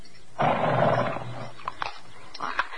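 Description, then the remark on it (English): A horse named Silver, being hand-fed from the palm of a hand, gives a loud, breathy snort lasting about a second, followed by a few soft chewing and shuffling noises. “I did it. I fed him. You see, you're really not afraid of horses at all.”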